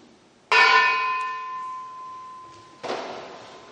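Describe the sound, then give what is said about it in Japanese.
A church bell that survived the atomic bombing is struck once in prayer for peace, a sharp, loud clang that rings on in a long, humming decay, then a second strike lands near the end as the first tone still lingers. “平和の主を信じる群れとして誠実に歴史と向き合い、平和を実現するために世界の教会と祈りを合わせ、あなたを信じる歩む、信じて歩む決意の印として、被爆を今へと伝えるこの鐘をつきます。”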